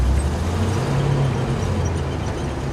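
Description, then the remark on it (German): A heavy truck rumbles as it drives onto a loading ramp, its suspension bouncing noticeably; the low engine drone is steady and loud for a few seconds, with a dense road-noise wash and no voices. “Als der LKW schließlich auf die Laderampe fährt und dabei ordentlich federt, berührt Leos Hintern kurz den Asphalt.”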